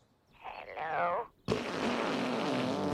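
Toilet sounds strung together like a song: a warbling, gurgling tone swells for about a second, then cuts off and gives way to a sudden loud, steady rush of flushing water.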